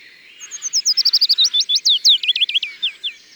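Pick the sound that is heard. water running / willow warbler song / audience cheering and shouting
willow warbler song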